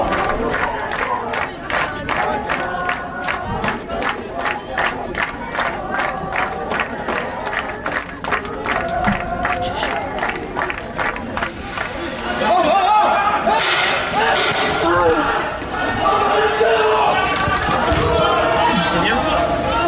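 A loud protest crowd at the weekend 'Act 11' demonstration shouts slogans in a steady, rhythmic chant with regular beats, then breaks into dense, overlapping yelling with sharp whistles cutting through the din.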